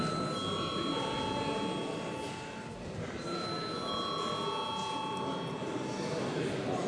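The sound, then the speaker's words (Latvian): The Saeima parliament chamber bell rings before a vote in a long, steady electric tone, pauses briefly, then rings again for several seconds, all over a constant murmur of voices in the room. “Viens deputāts runājas par viens pret, lūdzu zvanu.”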